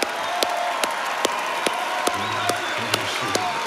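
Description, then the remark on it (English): Congregation applauding and cheering in praise of God during a church service: a dense, steady wash of clapping with sharp beats recurring in a regular rhythm, and scattered voices calling out and whooping throughout. “Come on, cheer Him on.”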